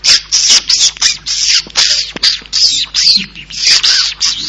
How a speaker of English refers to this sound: The first is the baby bird who calls for the mother in the nest.